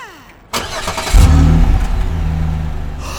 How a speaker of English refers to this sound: Is that a Chevrolet Camaro? Ernest might have gasped as a classic American muscle car stopped by the workshop